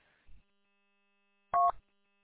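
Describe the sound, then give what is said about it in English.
A single short telephone keypad tone beeps loudly as star 99 is dialed on a phone, preceded by a soft low thump, with a faint steady hum in the background and no talking. “I forgot that it was Star 99.”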